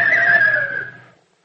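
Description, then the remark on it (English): A single loud neigh from a white circus horse, a high, wavering whinny that holds steady and then fades out after about a second, with no voices or other sounds around it. “Grandpa, it's him! I always knew it! It's him! The white circus horse that's on the poster!”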